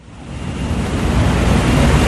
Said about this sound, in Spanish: Este ruido es el del agua que se vierte en las cuencas de la planta de tratamiento de aguas Manantiales, una de las más importantes de Medellín y su región. Se encuentra a unos 40 minutos en coche de la ciudad, en lo alto de las colinas.